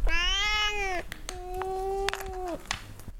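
Shelter cats eating food they enjoy from their bowls let out two long, loud, drawn-out meowing yowls, one after another with a short pause between them. They are not trying to get out of their cages. No one speaks.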